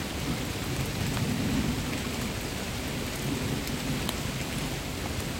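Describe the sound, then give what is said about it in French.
Steady, dense rain, growing heavier, pours down with a constant hiss, scattered droplet taps and a low rumbling undertone, filling the whole scene without any voices. “La pluie s'aggrave.”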